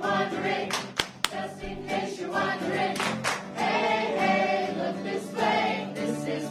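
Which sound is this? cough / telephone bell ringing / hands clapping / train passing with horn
hands clapping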